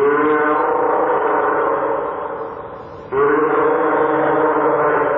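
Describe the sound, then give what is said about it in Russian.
A fur seal gives a loud, drawn-out bleating call, harmonic and wavering, that fades briefly around the midpoint and then resumes just as strongly, heard alone without talk. “А это подает голос морской котик.”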